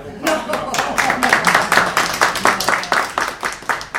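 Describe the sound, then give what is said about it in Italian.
An audience applauds steadily for several seconds, many hands clapping together in a dense, fairly loud burst that carries on without pause. “E fate quell'applauso, dai.”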